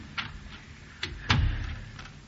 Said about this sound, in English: Go downstairs quietly. Unbolt the side passage door.